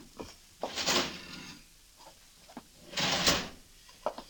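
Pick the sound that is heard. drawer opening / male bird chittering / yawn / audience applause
drawer opening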